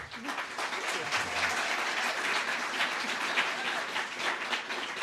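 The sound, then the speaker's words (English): A crowd applauds steadily for the commissioner candidates, dense overlapping clapping holding an even loudness for several seconds, with faint murmuring voices mixed underneath. “So first, let's have a round of applause for our candidates.”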